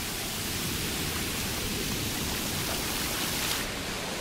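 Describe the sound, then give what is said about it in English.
Ocean waves make a steady, hissing roar of surf that holds at an even loudness for a few seconds, with no distinct breaks between swells and no voices. “My favorite place is the ocean.”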